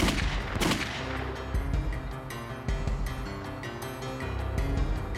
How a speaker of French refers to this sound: Il sortit une arme à feu d'un sac de papier et tira sur Thomas à quelques reprises à la tempe gauche.